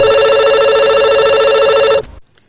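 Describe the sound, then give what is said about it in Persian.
A telephone rings with a loud, steady electronic trill lasting about two seconds, then cuts off abruptly into near silence. It is a listener's call coming in to the Radio Azadi call-in programme Sorood va Sokhan. No voices are heard. “حال نوبت نشر تماس‌های تلفنی شما دوست است که با هم یک جا مشنویم.”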